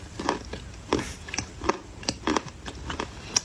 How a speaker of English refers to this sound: She's still chewing. She'll be chewing like until tomorrow. She'll be chewing till tomorrow's show.